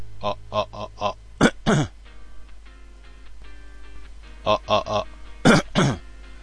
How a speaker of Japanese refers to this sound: 咳込んでるのはわざとです。わざといつも自分は頭に咳込むんですけど、咳込んで振り切ってるぐらいの音量にしてもしてるんですよ、いつも。だから初め無駄に咳込むんですけど、